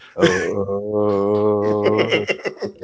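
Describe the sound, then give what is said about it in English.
A solo voice imitates incoherent rap ad-libs: a long, wordless, steady-pitched wail held for about two seconds, then a burst of quick, choppy nonsense syllables. “where he'll just get up on a song and then at some point he'll just go ahead and start just making like incoherent noises.”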